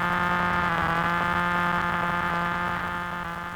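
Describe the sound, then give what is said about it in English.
A loud, steady electrical buzz with a rich harmonic drone, interference on radio reception from a neighbour's electric razor, holds constant for several seconds before easing slightly at the end. No voices. “Suppose, for example, the man next door decides to use his electric razor.”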